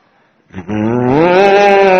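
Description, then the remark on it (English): After a brief quiet moment, a person gives one long, loud mooing call in imitation of a cow, its pitch swelling slightly upward as it is held. “All the cows were mooing Krishna's out of love.”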